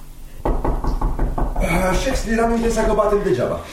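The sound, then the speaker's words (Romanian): A rapid series of about half a dozen loud knocks on a door, followed right away by a voice speaking in a strained, drawn-out tone. “Așa că ne-am impresa că batem degeaba.”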